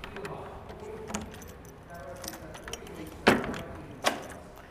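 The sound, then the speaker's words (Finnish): Keys jangle softly over a low background rumble, then two sharp metallic clunks ring out near the end as a big door of a castle with thick stone walls is unlocked and opened after crossing the courtyard. “Kävellään pihan poikki ja avataan jälleen yksi iso ovi.”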